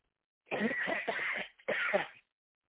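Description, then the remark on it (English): A coughing fit from a speaker giving a message: a rapid run of harsh coughs, a brief catch of breath, then another short burst of hacking coughs before silence. “And that is the devil trying to prevent me from giving this message because I haven't coughed all day until now.”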